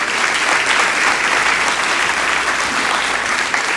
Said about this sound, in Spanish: De un aplauso al Señor por eso.